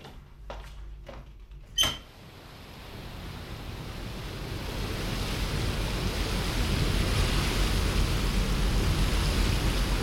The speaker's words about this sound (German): So hört sich ein Container von innen an. Also, ein leerer Container.